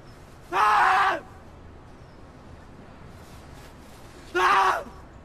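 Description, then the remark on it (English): A man on a tower block roof under a grey sky lets out two loud, strained screams, the first lasting about half a second and the second coming a few seconds later, with quiet background between them. “He screams into thin air, his face creasing as if he's remembering something.”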